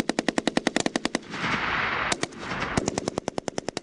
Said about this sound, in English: What does it feel like when you're shooting a Kalashnikov? I don't know. It's just great.